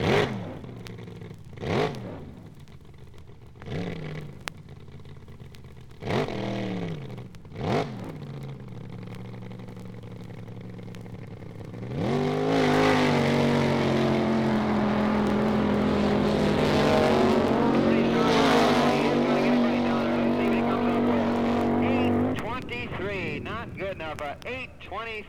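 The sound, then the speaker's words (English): An Oldsmobile-powered race car engine roars at high speed, about 189.86 miles per hour, its loud sustained drone rising and falling in pitch as it revs, preceded by a few short bursts of engine noise. “It's a fantastic Oldsmobile powered machine.”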